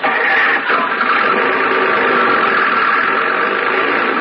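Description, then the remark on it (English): A roadster car's engine runs steadily at a loud, constant level, a dense mid-range rumble with no breaks or gear changes over the few seconds, and no voices over it. “Oh, this is a roadster.”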